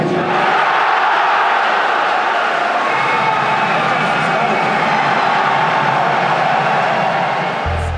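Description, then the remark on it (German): A large crowd of spectators at the final of an esports tournament shouts and roars continuously, a dense, loud wall of overlapping voices that stays steady for the whole stretch. “Am liebsten wäre ich jetzt auch bei ihnen und würde einfach mitschreien.”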